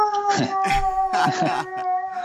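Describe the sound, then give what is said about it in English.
Dogs howl and whine in long, wavering tones, steady across the moment, with a few rougher yelping bursts mixed in. “I've got my own dog problems.”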